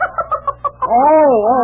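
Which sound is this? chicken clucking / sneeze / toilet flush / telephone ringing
chicken clucking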